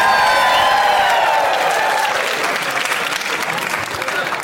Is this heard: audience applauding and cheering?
yes